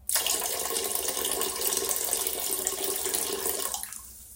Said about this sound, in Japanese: じゃあね、せっかくなんで、どれぐらいおしっこ出てたかね、トイレにちょっと今流してみるので、すごい量なんで聞いてください。